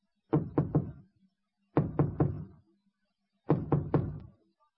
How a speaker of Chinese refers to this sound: 敲了三个三下，最后敲了一个四下，这门然后才从里边开开。